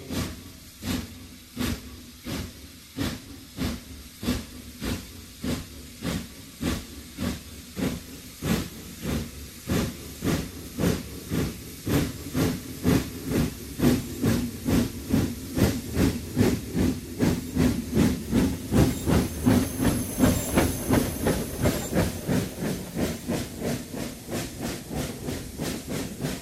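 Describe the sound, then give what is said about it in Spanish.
A steam locomotive puffs and hisses in a steady rhythm of chuffs that quicken and grow louder as it gets underway, with no voices. “Hombres, mujeres y niños parados en el andén están esperando al tren con el oro cristalino colgado de su destino.”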